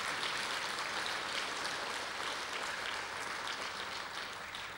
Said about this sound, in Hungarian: Nagy-nagy szeretettel köszöntjük őket. Tapsoljuk meg őket.